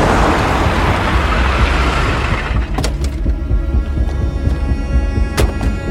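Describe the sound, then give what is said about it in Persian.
A car drives into the yard of a house with a loud, heavy engine rumble and road noise throughout, followed by a few sharp clicks and knocks as it comes to a stop. “آتم با ماشین وارد حیات خونه میشه.”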